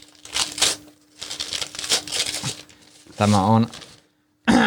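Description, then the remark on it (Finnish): Crinkly packaging of a bath bomb is torn and crumpled open in bursts of rustling, followed by a brief voiced sound and another short crackle at the end. “mutta sä voit avata sen.”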